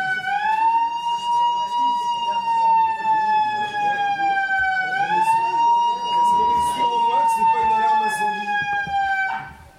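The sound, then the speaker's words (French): A loud, continuous alarm siren from a Quick restaurant, said not to be a fire alarm, wails steadily, rising and falling in slow cycles about every five seconds, with a murmur of people talking underneath before it cuts off at the end. “Le quick là, c'est pas une alarme incendie, ça.”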